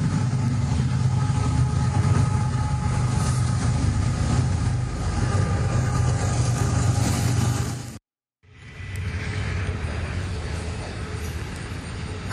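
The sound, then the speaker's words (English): A freight train rumbles past at 6 a.m., a loud, steady roar of heavy low rumble and rattling wheels, broken by a brief dropout before the noise continues. “Freight train.”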